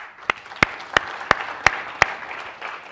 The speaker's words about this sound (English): And I really applaud the debating society. Actually, let's applaud them.